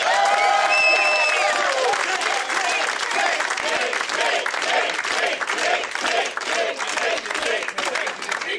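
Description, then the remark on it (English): A loud comedy-show audience at the Punchline applauds and cheers, then settles into a steady rhythmic chant, repeating the word "taint" over and over at an even pace above continuous clapping. “The chanting, yes, they're yelling taint over and taint, over again.”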